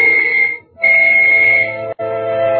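A loud, shrill whistle signalling all clear before a blast sounds in three sustained blasts: a short one, a longer one after a brief pause, then another right after a quick break. No voices are heard.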